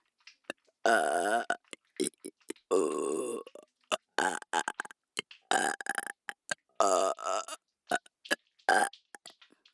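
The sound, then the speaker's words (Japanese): A string of loud, close-up burps, several drawn-out and throaty, rumbling right against the microphone with short gaps and small clicks between them. “もういいよ、ゲップで果てろ。ゼロ距離ゲップで。”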